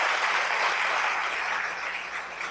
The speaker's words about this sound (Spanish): Vamos a dar un fuerte aplauso a Carlos Tavares.